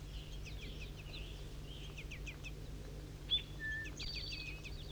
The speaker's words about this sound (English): begging calls in the distance, I'm close to 4-3, behind the Lornet site in the bushes. Juvenile begging calls.